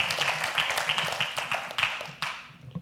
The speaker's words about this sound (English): In 2023, our average attendance of kids, that's up there right now, is 60. You can clap for that.